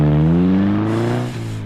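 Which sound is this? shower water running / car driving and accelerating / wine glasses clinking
car driving and accelerating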